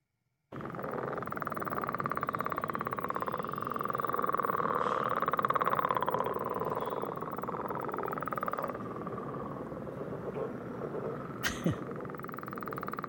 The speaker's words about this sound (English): Well, let's listen to a little more of the denizens of the vernal pools, the northern leopard frog.